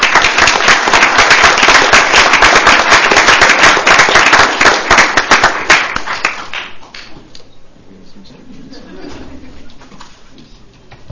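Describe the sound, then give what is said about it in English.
An audience applauds an honoree at a San Luis Obispo County board meeting, with dense, steady clapping for several seconds, then it tapers off into a few scattered claps and quiet room noise. “So if we can give a round of applause to our first honoree,”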